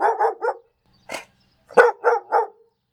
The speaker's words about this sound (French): C'est alors que nous avons vu Milou réapparaître affolé. Nous sommes descendus et le chien s'est mis à tirer le bas de mon pantalon et à aboyer sans cesse.